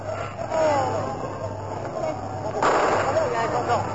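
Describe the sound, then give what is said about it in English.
A huge crowd of Parisians in the square before Notre Dame Cathedral, Paris, roars and murmurs as General de Gaulle arrives; partway through a sharp sniper gunshot cracks out, followed by a louder surge of noise and scattered further shots under the babble of voices. “And in this dispatch that follows, you'll hear the shots of the snipers.”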